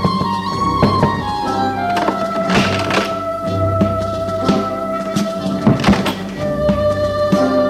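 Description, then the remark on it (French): Several dull, irregular knocks on the door of a room, followed by thumps and rustling as the door opens and someone enters, all over a steady tonal background hum. “Frappe à la porte de la pièce et entre.”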